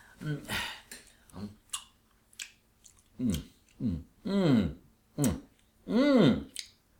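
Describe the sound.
Crunchy chewing of a meat dish, a sort of pork, in a series of short bursts, followed by rhythmic mouthy sounds mixed with voiced humming murmurs, as if someone were eating with exaggerated relish.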